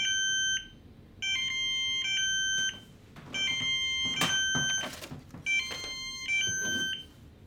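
Electronic beeping from an Amazon Fire TV remote's finder alert, set off by asking Alexa to find the remote: quick high-pitched tone patterns repeat in several bursts with short gaps, loud and close, along with a few soft rustling knocks. No one speaks.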